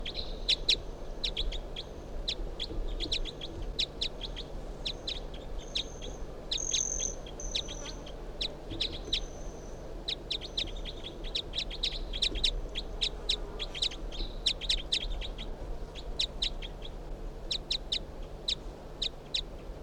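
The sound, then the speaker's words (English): A bird, recorded by a sensor, calls in response to another bird just brought out, with quick, high, sharp chirps in uneven bursts, broken by a few brief thin whistles, all over a steady low hum of background noise. “Sensor recording 361 in response to bird 362, who I just brought out here.”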